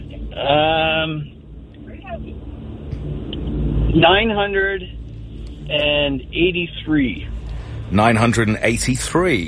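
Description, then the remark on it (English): A steady low road rumble from inside a moving car runs throughout, with people's voices making drawn-out, wavering vocal sounds over it. “Says the winner of pickleball, trying to cause an atmosphere in the car.”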